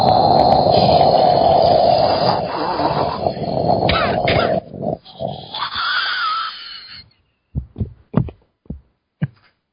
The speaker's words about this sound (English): Take a deep, deep breath and breathing inward slowly and then breathing outward slowly with the dragon breath.